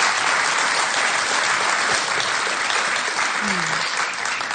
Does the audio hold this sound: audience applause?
yes